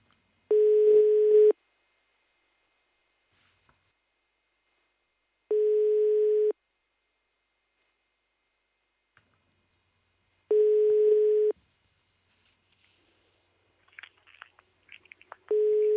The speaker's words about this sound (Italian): Segreteria telefonica.